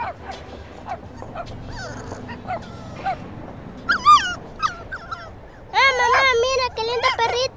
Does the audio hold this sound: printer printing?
no